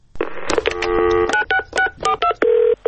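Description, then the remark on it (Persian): A quick run of telephone keypad tones as a phone is dialed to leave a message on the Radio Farda answering machine, several short beeps in an uneven rhythm with brief gaps, loud, ending on a longer steady tone with no talking. “با ما تماس بگیرید، روی تلفن پیامگیر رادیو فردا پیغام بگذارید.”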